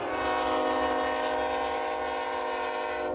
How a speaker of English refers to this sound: He sped up his car, a Chevy Malibu, missed a turn, went off the road, and onto the train tracks that run parallel to the highway. The car stopped, but the oncoming train was unable to.